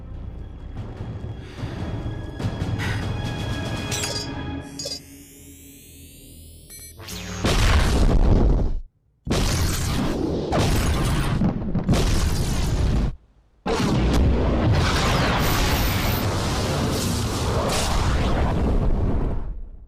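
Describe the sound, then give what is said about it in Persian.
A steady mechanical hum gives way to a rising whine, then a massive explosion erupts as Mount Justice is blown up, with several deep roaring blasts rumbling on and crackling loudly until the end. “منفجرش کن”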